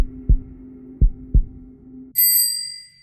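A slow, muffled heartbeat thuds three times over a low hum, deep and soft like a distant drum, before a bright bicycle bell rings out and fades.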